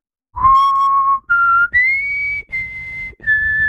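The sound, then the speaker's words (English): A person whistles a short musical theme of five sustained notes, stepping upward in pitch with brief breaks between them, clear, with no talking. “No, you're whistling right.”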